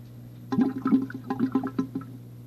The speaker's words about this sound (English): Some of the bubbles are still there from the soap. watch it go down. There go the water and the bubbles. Down that tiny drain.